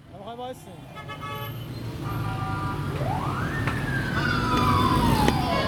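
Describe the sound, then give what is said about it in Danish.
Dense street traffic in Tehran, Iran, with a steady engine rumble, repeated car horn toots, and a siren sweeping up then gliding slowly down, growing louder toward the end. “Velkommen til Teherans trafik.”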